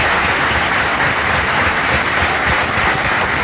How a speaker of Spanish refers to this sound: ¡Dale un aplauso a ese Cristo maravilloso!